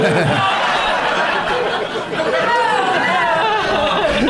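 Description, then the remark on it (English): A crowd boos a man taking off his underwear, a loud, sustained wash of overlapping voices for several seconds, mixed with chatter and a few scattered laughs, dipping briefly midway before swelling again. “Who's booing me taking them off?”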